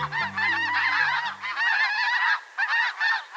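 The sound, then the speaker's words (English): A large flock of white geese with black-tipped wings and pink legs, flying through North Texas, honking together in a dense, continuous clamor of overlapping calls, loud, with a low engine-like hum underneath at the start that fades away. “In winter, flocks of white geese gather by the thousands in fields and marshes of the U.S. and Mexico.”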